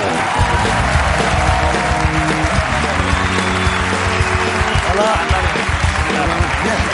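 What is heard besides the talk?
studio audience applause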